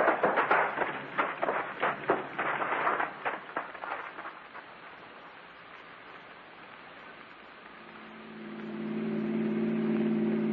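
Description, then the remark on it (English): A car engine idles, pulled over with its lights off, with a steady, low droning hum that rises in the final seconds, following a stretch of hissing, rain-like noise and irregular crackling bursts. No one speaks. “Pull over and stop then. Douse your lights. Keep it running.”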